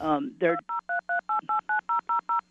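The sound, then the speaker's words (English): A brief voice is followed by a quick, even run of about ten telephone keypad dialing tones, each a clear, steady dual-pitched beep with short gaps between, fairly loud. “Someone's dialing.”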